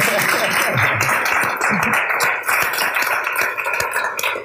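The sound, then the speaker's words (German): An audience applauds steadily, a dense, even wash of many hands clapping that holds for several seconds, with a few faint voices calling out underneath. “Vielleicht mal einen Applaus für die für da hinten.”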